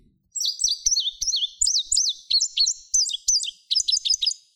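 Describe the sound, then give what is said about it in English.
An indigo bunting sings a bright, high-pitched, finch-like song of quick paired notes, the phrases bouncing along in a steady series of short bursts, clear with no talking. “So they kind of, it has a finchy, bouncy sound, but those paired notes are really distinctive.”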